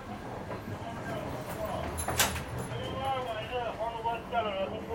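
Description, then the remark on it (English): Steady rumbling and rattling inside a moving train as someone walks between its carriages, reaching carriage number 10, with a sharp metallic clunk midway like a connecting door, and indistinct voices murmuring in the background. “This train, oh, we're at number 10. Okay, two more carriages to go.”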